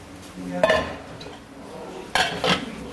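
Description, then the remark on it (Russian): A metal pot of soaked peas and water clanks down onto a stovetop to cook for 2 hours, followed by a couple of sharper knocks of cookware, fairly loud against a quiet background with no talking. “И ставим на огонь на 2 часа.”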